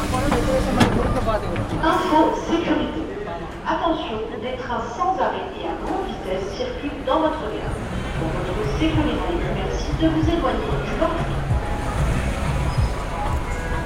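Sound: train station platform ambience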